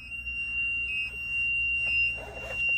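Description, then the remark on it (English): A steady, unbroken high-pitched warning tone sounds continuously in a vehicle apparatus as the seat belt is taken off, with a red seat belt light, over a low engine rumble, holding one pitch without pulsing. “Take my seat belt off. Red light, solid tone.”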